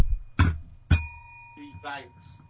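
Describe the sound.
A clunk of something being picked up, then a small bell struck once, its clear tone ringing and fading over about half a second before a person's voice briefly comes in.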